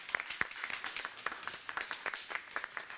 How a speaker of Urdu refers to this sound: ان کی حوصلہ افزائی کے لیے تالیاں.